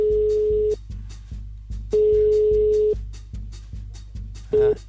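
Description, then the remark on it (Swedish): A phone line's ringback tone sounds during an outgoing call: a steady, fairly loud beep about a second long, a pause, another long beep, then a short one, over a rhythmic low thumping beat. “Nu ringer jag igen.”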